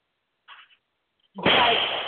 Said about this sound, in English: And you're going to hear a lot of fireworks in the background.